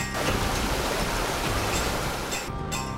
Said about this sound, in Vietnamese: Ven theo con đường núi thơ mộng, đến với bản Thái ở Tú Lệ, để hòa mình vào dòng suối sinh dưỡng mang nguồn năng lượng của núi rừng.